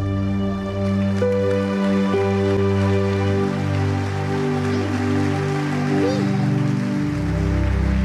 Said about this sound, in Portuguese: Se é para ele dar um lindo aplauso,